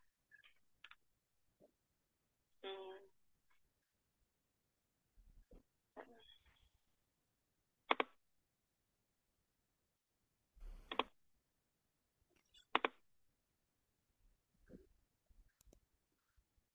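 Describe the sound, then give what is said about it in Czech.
Sharp clicks of a computer mouse or keyboard sound in scattered bursts, a few seconds apart, with quiet pauses between them and no talking. “Cvakání do počítače slyším velmi nahlas.”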